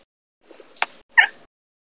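A cat lets out two short meows in quick succession, the second louder and more drawn-out, with no talking over them.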